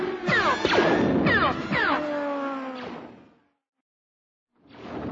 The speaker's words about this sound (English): The peal of metal striking metal and the scream of the door being torn from its rails snapped Gavin Darklighter's head around. He saw the gate come crashing down, then the riderless speeder bike flying into the warehouse.